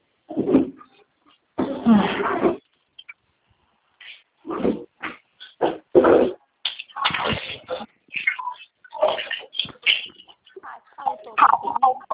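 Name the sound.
dog whimpering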